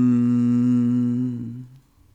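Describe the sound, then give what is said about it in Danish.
A single low chanted "lom" meditation tone, sung steadily by one voice as a rich sustained hum for well over a second, then tapering off into quiet; chanted after a deep breath as one of three repetitions in a guided meditation. “Og tag så en dyb vejrtrækning og gentag så i alt 3 gange denne lyd, og hver gang du gentager den, gør du den længere, og lyden er lom.”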